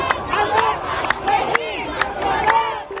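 A large crowd of protesters in Beirut, Lebanon, protesting an explosion, shouts and chants together in a loud, continuous roar of voices, with sharp bursts of yelling rising out of the mass every second or so.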